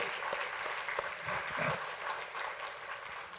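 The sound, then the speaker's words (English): An audience applauding for a woman being praised: a steady wash of many hands clapping at once, dense and sustained for the whole stretch, with a few sharper claps standing out and no voices on top. “If I were to ask you a question today, yeah, give her applause, give her applause.”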